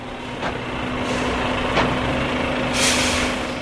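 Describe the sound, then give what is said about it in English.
Heavy trucks, each laden with 25 metric tons of grain, idle and rumble as they roll in one by one at the front gate of Krupp Energies' bioethanol plant, with a steady low engine drone punctuated by short hissing bursts of air brakes releasing. No voices. “At the plant's front gate, trucks, each laden with 25 metric tons of grain, roll in one by one on a meticulously timed delivery schedule every day.”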